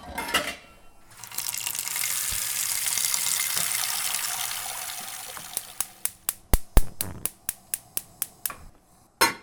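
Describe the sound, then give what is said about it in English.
Tap water runs steadily into a pot for several seconds as it is filled for cooking pasta, then stops, followed by a quick series of sharp metallic clinks and knocks. No one speaks. “while we wait for this water to boil, you know that I am trying to approximate the study that you did, so I guess you could surmise what else I have here on the counter.”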